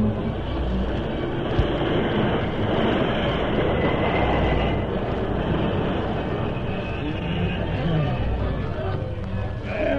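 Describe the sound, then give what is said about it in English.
A train rumbles loudly for about ten seconds as it brakes to a stop, a steady, dense roar of wheels and machinery with a faint metallic hiss running above it. “Jim, stop the train. Hurry it up.”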